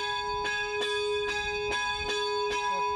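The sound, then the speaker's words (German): A bell tolls steadily for a funeral procession on its way from the house of mourning to the church, striking roughly every half second with a long, ringing hum sustained between strikes. No voices, just the resonant bell. “der Leichenzug auf seinem Weg vom Trauerhaus bis zur Kirche durch das sogenannte Wegläuten begleitet.”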